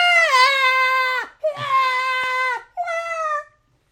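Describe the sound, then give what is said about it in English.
A voice mimics a woman howling like a wild animal, a banshee-like howl: three loud, high-pitched wailing cries, each held steady before dropping off, the last one shorter than the first two. “she was howling like a wild animal, like a banshee.”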